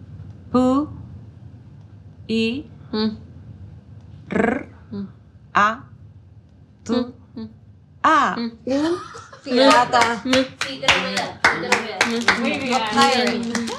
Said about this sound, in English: I love this moment because the crowd just goes wild. At this point, everyone in the room had had their mind blown.